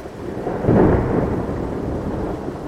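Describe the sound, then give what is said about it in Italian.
A deep, rolling rumble of thunder from an approaching storm over the Zuni Mountains, New Mexico, swells in the first second and lingers as a broad low roar, with a steady hiss of rain underneath and no voices. “La giornata non è delle migliori, c'è una tempesta in vista.”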